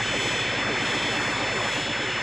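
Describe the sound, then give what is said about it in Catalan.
A swarm of fighter planes circles Pilaf's floating airship, roaring overhead in a loud, dense, continuous wash of engine noise that stays steady throughout, with no single plane standing out. “Un eixam d'avions de combat envolten la nau aèria flotant d'en Pilaf.”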